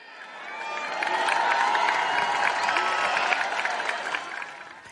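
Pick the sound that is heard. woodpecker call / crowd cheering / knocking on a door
crowd cheering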